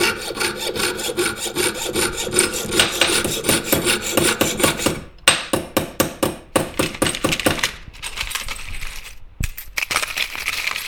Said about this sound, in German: Gearbeitet wird mit Sägen, Feilen und manchmal auch mit dem Schweißgerät. Das hört sich dann so an.